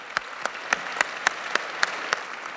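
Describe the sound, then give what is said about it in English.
Audience applause at the Bob's Awards ceremony, with about eight sharp, evenly spaced claps standing out at a steady rhythm over a constant hiss of background noise; no one speaks. “Big round of applause,”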